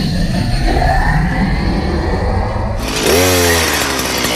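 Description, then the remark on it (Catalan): A chainsaw engine runs loud, buzzing steadily before surging into a sharp rev with a rising, harmonic whine near the end, in an advertisement for the Taller Sagrés garden machinery shop. No voices are heard. “A Taller Sagrés hi trobaràs motoserres, desbrossadores, bufadors, biotrituradores, totes les màquines i tots els complements que necessites.”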